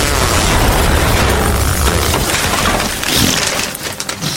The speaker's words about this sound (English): was a dark and wide coal mine, which exploded into a plume of smoke.